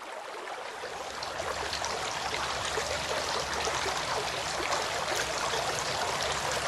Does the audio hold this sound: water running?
yes